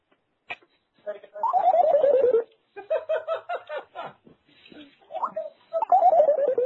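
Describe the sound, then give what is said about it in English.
The dog sound effect from the retro video game Duck Hunt: a buzzy, electronic snickering laugh made of choppy pulses and gliding, descending tones, repeated a few times at moderate loudness. “Oh, that's the dog from Duck Hunt.”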